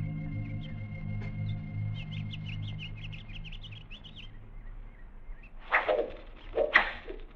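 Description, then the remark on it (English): Two sharp whooshing arrow strikes, shot by Indians at a group of men, land about a second apart, each ending in a thud, after a stretch of quiet chirping birds over a low, steady rumble. “Arrows. They're shooting arrows.”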